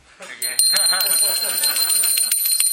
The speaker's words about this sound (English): As soon as Krishna puts the mouth, the bell starts ringing.